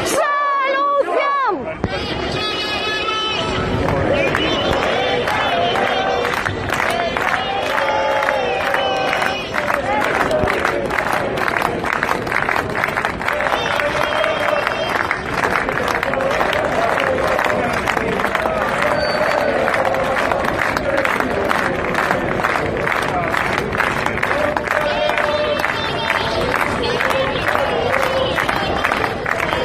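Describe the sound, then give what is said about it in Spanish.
A dense crowd of protesters, including families and children, shouts and chants the usual chants of the struggle over Alcoa at a Saturday vigil, continuously, with high children's cries rising above the din and rhythmic bursts of voices throughout. “De hecho, se nota, se escuchan los gritos de los niños, que ya pues prácticamente todos no sabemos los cánticos habituales en la lucha por Alcoa.”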